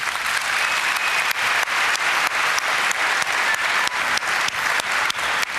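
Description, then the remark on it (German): An audience applauds the final candidates of a quiz, a dense wash of many hands clapping at a fairly loud, even level with occasional sharper individual claps standing out, and no one speaking. “Bitte noch einen Applaus für unsere Finalkandidaten.”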